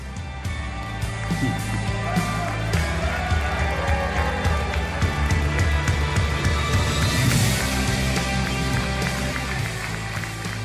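Steady interior road noise of a moving car: a continuous low rumble and broad hiss that holds fairly loud throughout, with occasional light rattles and bumps and no clear voices.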